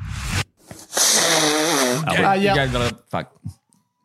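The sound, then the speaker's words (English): Someone blows their nose in a loud, drawn-out honk lasting about two seconds, with a wavering, buzzy pitch, followed by a couple of short, sharp sniffs. “Someone blowing their nose. That is correct, Skin.”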